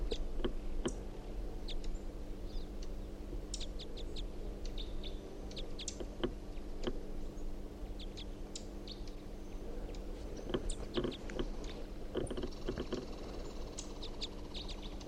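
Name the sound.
female bird calling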